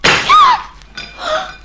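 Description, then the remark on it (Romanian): A clay pot smashes with a loud crash, its ringing shards clattering briefly, followed a moment later by a second, softer clatter of pieces settling. “Și ce, văd, ai spart și oalele neîndemânate, co.”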